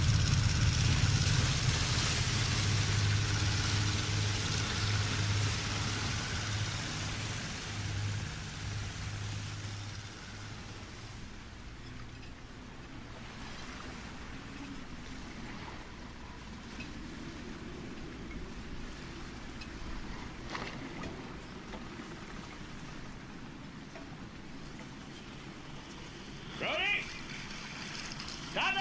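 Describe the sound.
A boat engine drones steadily at full throttle over rushing, splashing water, loudest at first, then settling into a lower, rougher rumble, with a few brief knocks and faint muffled voices.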